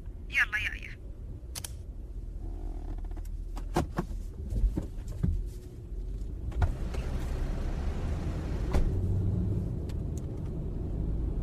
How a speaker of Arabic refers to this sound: يلا أنا جهزت بشغل السيارة بترياج لا تبطين علي.